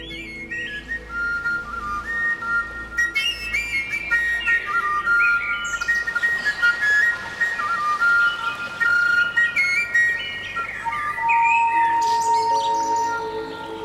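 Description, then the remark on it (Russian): A kalyuka, a Russian overtone wind flute made from a fresh motherwort or hogweed stem with no finger holes, plays alone, its airy, whistling tones leaping between high pitches in a steady, continuous flow of short phrases, with a breathy hiss underneath. “А вот так звучала калюка – духовой инструмент, причем сезонный и исключительно мужской.”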